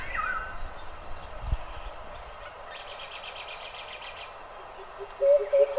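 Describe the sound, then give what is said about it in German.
Rainforest ambience with various animals, played over a 7.0 surround-sound system of 56 loudspeakers: a high insect trill pulsing in a steady rhythm about once a second over a dense hiss of buzzing, a brief low thump, and faint bird calls toward the end. “Das ist erstmal dieser Regenwald mit verschiedenen Tieren.”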